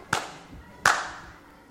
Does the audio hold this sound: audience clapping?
yes